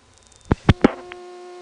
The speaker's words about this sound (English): As I said earlier, most of this hum is not the trunk, but the switching equipment in Bowling Green.